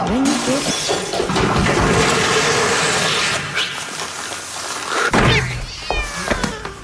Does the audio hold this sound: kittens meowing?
yes